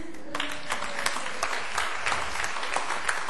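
A church audience breaks into applause after a children's sermon on tithing, a dense patter of many hands clapping steadily for a few seconds at a moderate level, with no one speaking over it.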